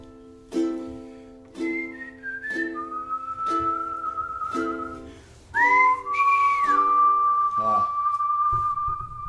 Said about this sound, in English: did not whistle very well for a second there